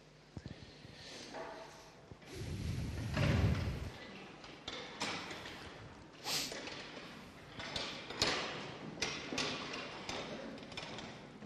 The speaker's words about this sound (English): I wonder if we could stand and if we could we gather round? Could we clear some of these chairs? Just first two or three rows and just gather around the front here.